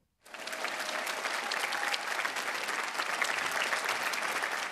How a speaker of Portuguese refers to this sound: O Santo Padre foi atendido com aplausos na praça.